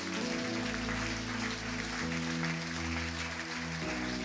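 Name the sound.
audience applauding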